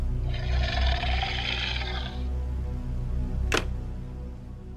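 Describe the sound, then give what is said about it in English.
A low, rumbling growl throbs steadily under raspy, heavy breathing heard over a phone call, with a sharp click near the end; continuous, no talking. “And a low growling.”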